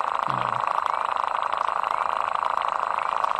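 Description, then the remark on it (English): A pond creature buzzes underwater by vibrating its penis fast back and forth, a loud, steady, mid-pitched drone of about 80 to 90 decibels that holds without a break, with a brief low tone near the start. No voices are heard. “What are they doing with their penises? Vibrating it fast, back and forth, underwater.”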